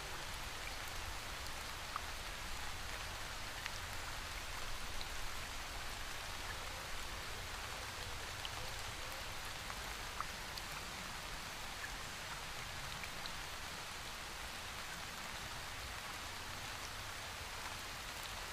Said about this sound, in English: You can hear the crashing and thrashing muffles of the waterfall above your head.